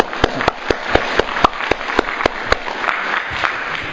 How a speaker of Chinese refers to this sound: 牧师问你们一下，今年你们的家庭有带领一个人信主的举手一下。 啊，我们替他们鼓掌一下啊。